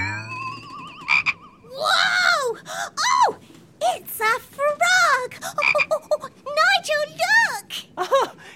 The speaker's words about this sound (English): We don't usually get frogs out at sea.